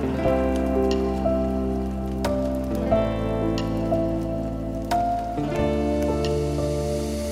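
Steady rain patters continuously over a sustained, soft musical chord backdrop that shifts a few times, with occasional sharper drips standing out; no voices are heard.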